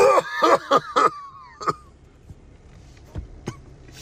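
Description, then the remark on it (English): A quick run of four harsh, voiced coughs, then a rougher final cough and a few faint clicks and breaths as things go quiet. “Sorry, I was coughing over that cap.”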